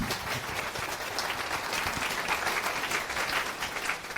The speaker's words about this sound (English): big round of applause